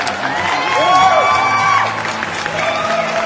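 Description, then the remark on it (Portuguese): A loud crowd applauds and cheers for a few seconds, dense clapping blended with rising whoops and shouts, steady throughout and fading slightly at the end. “Daqui a 3 podcasts chegaremos nos 50. Palmas!”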